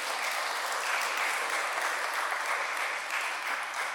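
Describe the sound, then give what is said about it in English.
A crowd claps together in sustained, dense applause, steady and fairly loud for several seconds with no voices standing out. The clap is given to honor the Heavenly Father. “Shall we give a clap to our Heavenly Father?”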